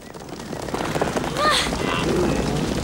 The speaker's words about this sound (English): Pumbaa and Timon, waiting in the long grass, see the thundering hooves coming towards them.